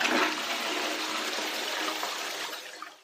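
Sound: toilet flushing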